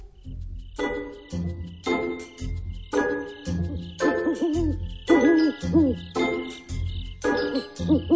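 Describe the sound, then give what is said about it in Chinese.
An owl hoots again and again on a starless night in wavering, tonal calls over a steady, rhythmic musical backing with a deep pulsing bass. No one speaks. “在一个没有星光的夜晚，一只猫头鹰静静地停在树梢”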